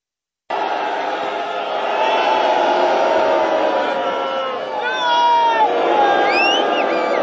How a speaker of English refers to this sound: There's everybody booing the globalists they put up on the big screens. Carney and Starmer and Mears and the Australian puppet.